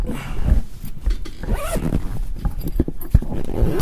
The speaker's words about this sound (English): Let's see. Let's zip this up.